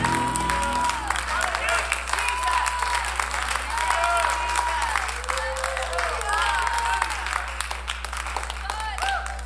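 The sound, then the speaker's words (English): A church audience claps steadily and enthusiastically for several seconds to give praise to God, a dense wash of hand claps mixed with scattered voices calling out and a low steady hum underneath. “Oh, why don't you clap your hands and give him some praise.”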